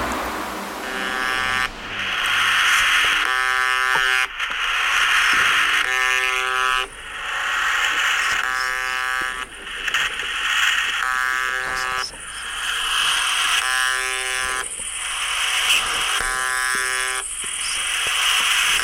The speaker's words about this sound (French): Il s'agit d'un simple son de buzzer qui se répète environ 25 fois par minute, et ce 24 heures sur 24, 7 jours sur 7, et ce depuis les années 80.